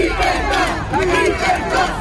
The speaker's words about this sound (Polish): Głośne okrzyki wolność w Mediolanie podczas demonstracji petardami, kamieniami i butelkami obrzucono siedzibę władz regionu Lombardia, które wprowadziły tam godzinę policyjną od 23 do 5 rano.